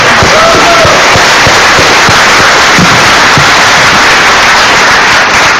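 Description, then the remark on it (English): Loud, sustained audience applause for the organizers of Linux Tag fills the whole stretch, a dense rattle of many hands clapping at once with sharp individual claps popping out, holding steady without pause and with no speech over it. “So a round of applause for the Linux Tag guys.”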